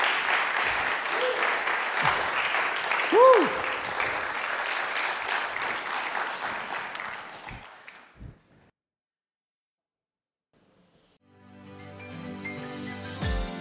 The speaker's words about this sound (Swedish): Så jag tycker att nu ger vi dem en applåd. Och så tackar vi så mycket.